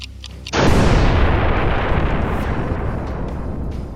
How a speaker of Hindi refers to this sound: 22 जुलाई 1946 को वेटर्स की यूनिफॉर्म में अर्गन का एक आतंकवादी दल दूध के 7 बड़े ड्रमों में डायनामाइट और TNT भरकर होटल के अंदर जा पहुँचा। उन्होंने इस विस्फोटक को डाइनिंग हॉल में रख दिया। 12:37 पर होटल में बड़ा धमाका हुआ।